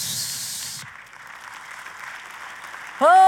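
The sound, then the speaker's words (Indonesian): An audience applauds for Jesus: dense clapping at first, then a thinner, softer patter that carries on until a loud, tonal voice or instrument cuts in at the very end. “Oh, tepuk tangan sekali lagi.”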